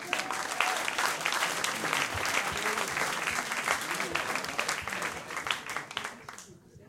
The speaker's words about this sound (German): Dann ist das dein Applaus, bitteschön.